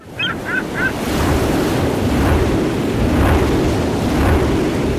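Steady, loud wind roars across the whole clip at the NBW Baltic 2 offshore wind farm in the Baltic Sea, where the wind is turned into energy, with a rumbling low end and rushing surf-like texture, opened by three quick high chirps in the first second.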